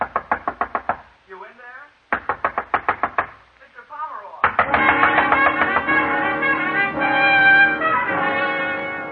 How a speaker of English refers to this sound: The bellboy out there pounding on the door.